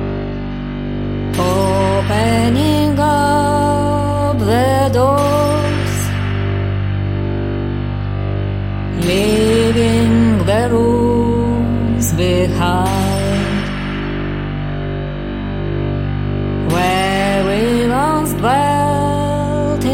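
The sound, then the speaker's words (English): A loud band track from the band's newly released album, with heavily processed, distorted instruments over a steady low drone, bursts of bright gliding tones recurring every few seconds, washed in echo, with no voices. “This is from their new album.”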